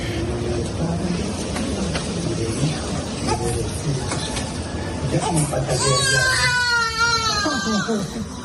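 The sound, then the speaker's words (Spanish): A baby only days old bursts into a loud, wavering wail near the end as water is poured on him while the Pope baptizes him in a hospital, crying in rising and falling sobs over a steady murmur of adult voices that fills the whole recording. “Lo que hemos comentado es que el niño estaba llorando, sí, porque estaba dormidito y de repente le empezó a echar agua y el papá se ha reído como diciendo, sí, vaya faena que le estoy haciendo.”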